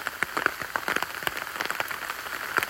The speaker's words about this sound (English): you'll be able to hear now, though, is the sound of the rain pattering on the umbrella. It really is getting heavy with that hail now. As I look in front of me, there's just a mist, which is just stair rods of hail and rain and general precipitation.